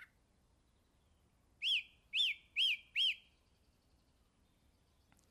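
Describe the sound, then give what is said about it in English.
A young thrush, the first chick to leave the nest at 11 to 15 days old and not yet flying well, chirps four times in quick succession, each note short, bright and rising-then-falling, clear against an otherwise quiet background. “This is the first young bird to leave the nest.”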